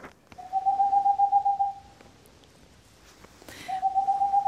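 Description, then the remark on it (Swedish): A Tengmalm's owl (boreal owl) calls twice in a rapid, steady trill of soft hoots, the first run lasting over a second and the second starting after a short pause, clear with no voices. “Men vi börjar då i ugglornas värld. Hör du vilken det är”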